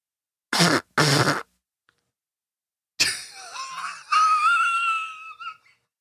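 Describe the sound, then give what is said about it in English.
Two short, breathy rushes of air, then a pause before a reedy, wavering toy train whistle is blown for a couple of seconds, fairly loud, with no talking. “That's me farting into my train whistle.”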